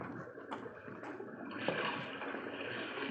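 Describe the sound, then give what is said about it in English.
Water of a brook holding large perch trickles and rushes in a steady, continuous wash, swelling slightly louder partway through, with no voices present. “Hey, Corporal, look at those big fat perch down in the brook.”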